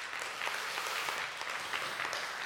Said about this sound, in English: Come on, let's give a big hand clap.